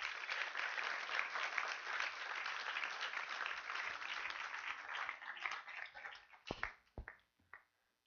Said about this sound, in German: Und da möchte ich gerade mal die 5 Taufkandidaten nach vorne bitten. Können nach vorne kommen. Applaus für die 5.